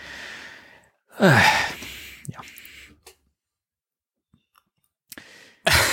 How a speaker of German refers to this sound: Was war das denn gerade? Ich habe gegähnt. Ich bin froh, dass die Leute das nicht sehen müssen. Ich habe gegähnt.